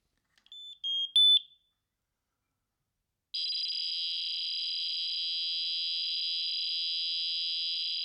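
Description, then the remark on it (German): A smoke detector, tested by pressing Test in an app and holding its button about three seconds, gives a few short chirping tones, then after a brief pause emits a steady, loud, buzzing fax-like data tone reporting its status to the app, lasting about five seconds, with no talking. “Nein, die haben sowas ähnliches wie ein Fax eingebaut in diese Rauchmelder.”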